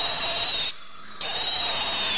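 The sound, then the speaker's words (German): A piglet squeals loudly and shrilly while only being picked up, two sustained high-pitched screams split by a brief gap of near-silence. No one speaks. “So klingt ein Ferkel, das nur hochgenommen wird.”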